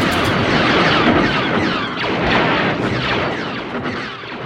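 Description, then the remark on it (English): A taut metal guy wire out in the middle of the desert, fitted with a contact microphone, is struck over and over with a wrench, giving dense, overlapping metallic zaps and laser-like zings that ring and smear together, loud and continuous, with no voices; used for the bass of Star Wars blaster sounds. “He found this great wire out in the middle of the desert and took a contact microphone out and put it on the wire and started hitting it with a wrench.”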